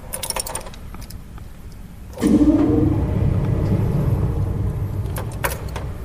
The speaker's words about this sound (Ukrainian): Вот сейчас заработал орган. Сейчас включился мотор. Сейчас воздух подается в его легкие.